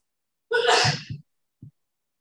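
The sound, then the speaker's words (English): A single loud sneeze bursts out sharply, followed by a couple of short low sniffs or breaths, then a brief faint thump before silence. “Bless you, whoever that was.”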